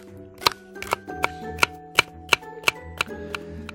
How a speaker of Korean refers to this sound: 양파를 가늘게 채쳐서 접시에 납작하고 깐다.